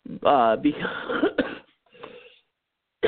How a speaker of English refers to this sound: Because I make myself laugh and then I cough. It's a wonderful thing.